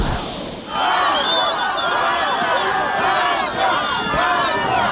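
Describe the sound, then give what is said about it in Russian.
A large crowd in Volokolamsk, Russia, protesting against the Yadrovo landfill, jeers and shouts as the governor of Moscow Oblast leaves on March 21. A loud, continuous roar of overlapping voices, with rising and falling cries layered through the din for the whole stretch after a brief quieter opening. “Так губернатора Московской области провожали в Волоколамске 21 марта.”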